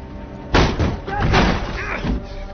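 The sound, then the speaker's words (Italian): Heavy, booming bangs on a door, several loud thuds in an uneven burst with a rumbling tail, mixed with muffled voices shouting in Italian to open the door. “Apri la porta!”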